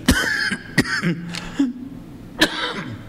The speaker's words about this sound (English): I got that cough too. But up there, you ain't going to have it, amen?